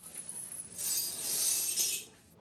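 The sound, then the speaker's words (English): Faint tinkling and clinking of shards of broken glass as a girl kneels and picks them up from a cushion on the floor, a bright scattered rattle lasting a couple of seconds with no voices. “The woman says careful as the girl kneels and picks up shards of broken glass from a cushion on the floor.”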